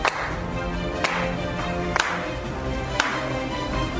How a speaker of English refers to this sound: Leading up to every kickoff, let's slow clap it out.